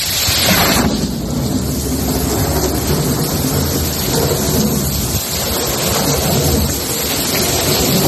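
Heavy rain pours down steadily while deep thunder rolls and rumbles throughout a night-time storm in Valladolid, Spain, loud, with a dense, continuous wash of downpour and no voices; up to 26 litres per square metre fell in about an hour.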